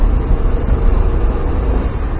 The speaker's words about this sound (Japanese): なかなかね、 はい、 このエンジンの音が軽自動車の終わりにはいい音するでしょ、は い、いいですね、ほんと。